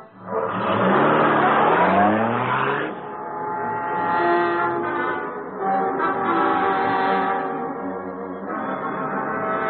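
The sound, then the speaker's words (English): A taxi with a man aboard drives off, its engine roaring and revving, pitch climbing, then settles into a steady, loud motor hum that shifts gear a couple of times. No one speaks. “He's getting in a taxi.”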